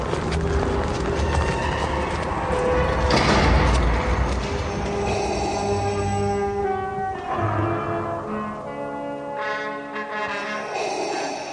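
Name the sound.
door opening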